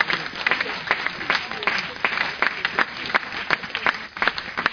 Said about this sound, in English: Give the Lord a clap offering, somebody.